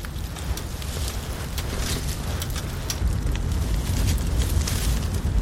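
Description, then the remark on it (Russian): A steady outdoor campfire in nature crackles and pops, with scattered sharp snaps over a constant low rumble, moderately loud, with no one talking. “Скажи, круто, да? Костер, природа.”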